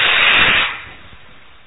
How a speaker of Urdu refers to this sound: سانس جو ہم نے مکھ سے بھرا ہے آواز کرتے ہوئے, یہ کاکی مدرا ہے. یوگیوں نے اس کو لیا ہے کوے سے.